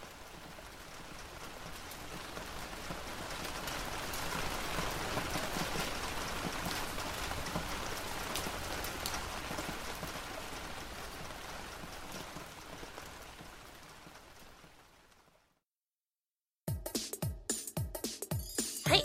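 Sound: rain falling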